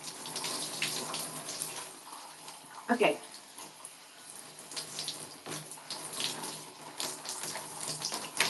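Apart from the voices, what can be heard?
shower water running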